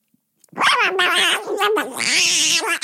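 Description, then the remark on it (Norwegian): A human voice imitates a cat being swept away by wind, a long strained yowling meow with wavering pitch and a rushing, breathy rise, loud for about two seconds. “Jeg ser for meg, og så det en katt som...”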